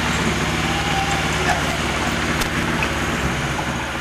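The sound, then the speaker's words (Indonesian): A motorcycle engine drones steadily outside, a continuous low rumble with a buzzing hum that stays fairly loud and constant throughout, with faint voices underneath. “Suara ini masuk ya, suara motor.”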